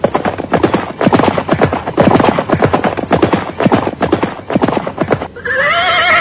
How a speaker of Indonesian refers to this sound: Mereka langsung menggebrak lari kudanya dan kabur.